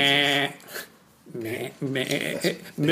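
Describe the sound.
A person mimics a goat's bleat, making several wavering, nasal "baa" calls in quick succession, fairly loud, with a brief pause after the first one.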